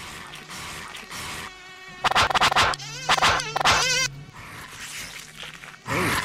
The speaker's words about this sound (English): Mosquitoes